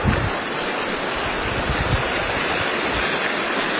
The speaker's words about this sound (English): See, the creek is running in two streams here.